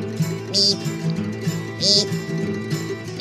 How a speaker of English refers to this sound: That's the American Woodcock.